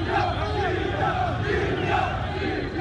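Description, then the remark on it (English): A large crowd of protesters in Martyrs Square, Tripoli, Libya, cheers and chants on a Sunday evening after shots are heard, with arms aloft, shouting "Libya! Libya!" It is a loud, continuous roar of many voices, with rhythmic rising shouts layered over the dense crowd noise. “Others cheered, arms aloft, shouting, "Libya! Libya!"”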